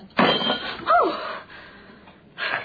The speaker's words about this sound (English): But just imagine, what would a shot like that do to someone with a weak heart?